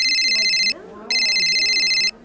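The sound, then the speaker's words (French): A telephone rings in two loud, trilling electronic bursts separated by a short pause, a call from a sailor's father, while a person's voice talks quietly underneath. “C'était son père au téléphone et il va le rappeler plus tard.”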